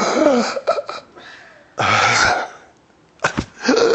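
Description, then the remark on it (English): A voice imitates the panicked, gasping breathing of someone on a mountain who could not breathe and felt he was dying: a run of short, ragged, raspy gulps, then a long strained heave and a few more sharp gasps, loud and uneven. “That's how I'm breathing.”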